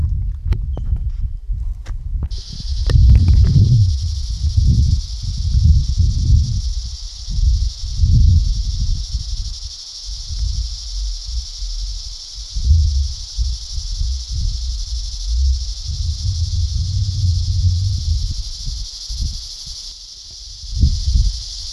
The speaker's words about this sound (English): So the cicada are out in full force this morning.